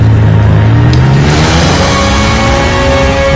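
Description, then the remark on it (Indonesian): A car engine revs hard as the driver floors the gas pedal and the car accelerates, its pitch climbing steadily as it speeds away, loud with a constant roar of road noise and no voices. “Diki dengan sigap langsung menjap pedal gas dan mobil langsung melaju kencang”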